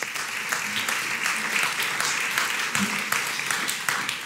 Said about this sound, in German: Ihr dürft euch gerne setzen. Und auch dem Mutigen einen kräftigen Applaus.